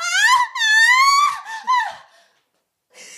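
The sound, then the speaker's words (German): A voice fakes an orgasm with exaggerated, theatrical moaning and wailing: several drawn-out, high-pitched cries in quick succession, loud, trailing off into a pause and then a short breathy sound. “Du sollst ja mal einen gefakten vorspielen jetzt.”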